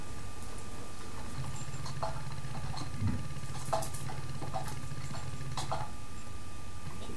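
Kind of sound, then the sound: household object, typing on a keyboard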